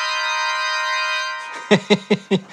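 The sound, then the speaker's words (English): A bright, buzzy organ chord holds steadily for over a second, then breaks into five short, punchy stabs in an even rhythm. No one speaks. “Let's hear the organ chord.”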